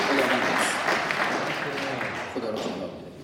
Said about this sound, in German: Lass uns Jesus nochmal einen Applaus geben.